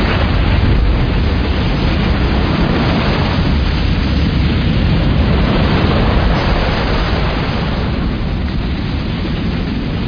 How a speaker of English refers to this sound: Then, last April, me and my crew drove out to Emerald Cove to catch some major tsunami waves.